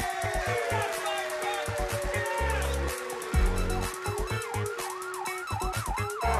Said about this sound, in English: Fire trucks are on the way. Keep you cool, yes you can. Gotta make a fire plan. Hear the sirens, hear the sirens. See the lights, see the lights.